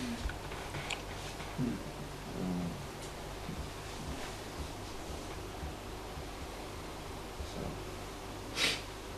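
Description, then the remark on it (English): A single sharp sneeze bursts out near the end, preceded by a few soft snorts and breaths over a steady low hiss, with no talking. “Bless you”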